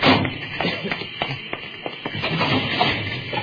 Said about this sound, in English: If we can find a chemical to neutralize it, I wouldn't know it if I saw it. I'll start looking through these cabinets. Nothing here that's any good.